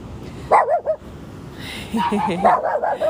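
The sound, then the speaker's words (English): Protective dogs bark in two short bursts, a quick cluster of yelping barks followed by a longer run after a brief pause, moderately loud over a low background hum. “They're the protective dogs.”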